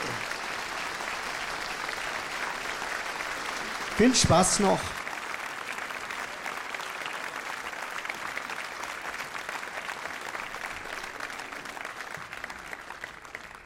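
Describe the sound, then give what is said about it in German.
An audience applauds steadily, a dense, even crackle of many hands clapping that holds throughout. A single voice briefly speaks over it early on. “Den Applaus hört euch noch.”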